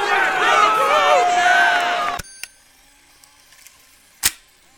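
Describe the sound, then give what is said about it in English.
A loud crowd erupts in cheering and applause for about two seconds, then cuts off abruptly into near silence broken by a few faint clicks and one sharp snap. “With this thunderous applause, the once productive policy, known affectionately as Clear Skies Tim, has violated the sanctity of HeartLife's most sacred tradition”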